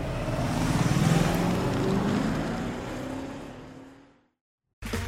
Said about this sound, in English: It looks like I need to pass a truck here.